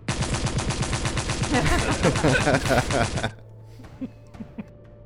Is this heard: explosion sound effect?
yes